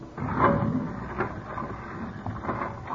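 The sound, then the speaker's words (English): A solid steel vault door, 2 inches thick and weighing 4 tons, grinds shut as a guard closes it, a steady low mechanical rumble broken by a couple of metallic clunks, moderately loud, with no voices. “That door is 2 inches thick and weighs 4 tons.”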